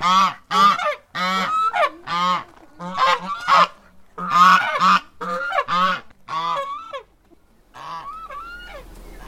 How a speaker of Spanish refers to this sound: Niñas y niños, vamos a escuchar los gansos.